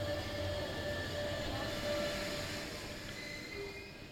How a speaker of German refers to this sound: Die S-Bahn fährt ein. Es geht in die Elbvororte. Sonntags um die Mittagszeit sind die Waggons fast leer.